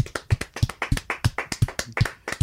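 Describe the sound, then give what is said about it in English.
A short burst of applause from a small group: steady, fairly even hand claps, crisp and moderately loud, running for a couple of seconds with no one speaking. “Let's give her a little round of applause.”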